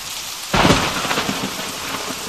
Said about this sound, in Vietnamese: Những đám mây ấy sắp dở toát ra đến nơi. Giữa tiếng sấm sét, có tiếng ầm ầm, không rõ là tiếng gì, đường xô về chúng tôi nghe như tiếng gió ngựa của cả một trung đoàn kỵ binh chạy tránh cơn giông.